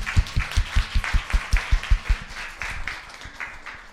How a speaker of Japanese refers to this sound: それでは皆さん拍手で迎えましょう。